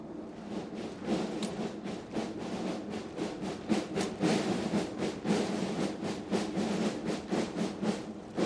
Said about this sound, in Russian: Возглавляет торжественное прохождение парадных расчетов главнокомандующий сухопутными войсками генерал армии Олег Солюков.